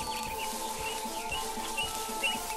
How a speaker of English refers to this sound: I spy, with my little eye, something starting with B. It's a bird.